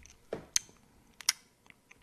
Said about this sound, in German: Hör auf zu schmatzen.